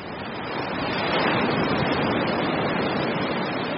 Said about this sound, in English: Winds whipped for hours out of the northeast, pushing waves across hundreds of miles of open Lake Superior water, what surfers call fetch, straight at a well-known surfing spot north of Duluth called Stony Point.